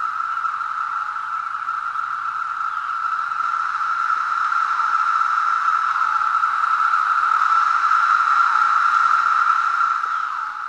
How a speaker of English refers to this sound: It's quite a hypnotic some sound. Some chorus there. We're looking to be hearing that for 2 or 3 consecutive weeks. That's the chorusing song of Magis cicada septendecim. This is one of 3 species of periodical cicadas that make up Brood 10.